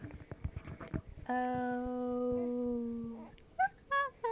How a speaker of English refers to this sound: There went one. Yeah, a little coo. Oh, can you coo to Daddy?